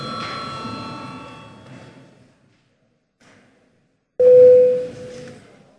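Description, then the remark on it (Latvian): A parliament session bell, rung at the presiding officer's request at a break before deputies' attendance registration, sounds with bright, sustained tones that slowly fade out over a couple of seconds. A short quiet follows, then a loud, steady single tone starts abruptly over low background murmur. “Lūdzu zvanu.”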